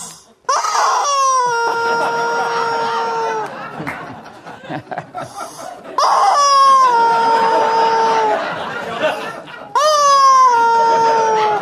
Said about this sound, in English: So we present to you the first annual Greg Gutfeld Outrage Awards, in which this screaming chicken is the actual award.